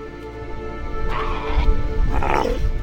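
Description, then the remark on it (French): An Australian sea lion, a protected species, on Kangaroo Island in southern Australia gives two hoarse, drawn-out barking calls in close succession, fairly loud, over a steady low background rumble. “Kangourou, située au sud de l'Australie, véritable paradis animal, où l'on croise des kangourous bien sûr, mais aussi des koalas, des ornithorynques, des otaries à fourrure et notre lion des mers, espèce protégée car en diminution depuis des années.”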